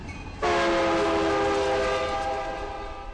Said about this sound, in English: The town of Caliente sits in a narrow canyon 90 miles northwest of Las Vegas. It was built as a pickup spot for railroad passengers, but today trains just rumble by, saluting the 1,200 residents.